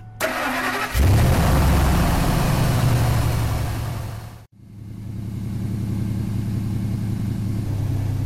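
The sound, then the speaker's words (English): A truck engine cranks and fires up, roars loudly for a few seconds, then cuts briefly before settling into a steady idle with a rough, missing beat from a misfiring motor. No one speaks. “This truck here, it's kind of hard to tell standing in front of it, listening to the engine, but visually you can see that the motor's got quite a bit of a miss in it.”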